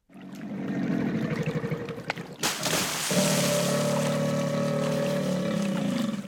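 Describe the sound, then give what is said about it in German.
A motorboat engine drones steadily, its low throbbing hum mixed with splashing water, then settling into a smoother, higher-pitched steady run partway through. “Kann ein Motorboot schielen?”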